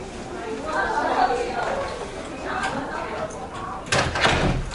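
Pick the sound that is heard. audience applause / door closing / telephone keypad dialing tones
door closing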